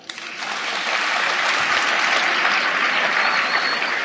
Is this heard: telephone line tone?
no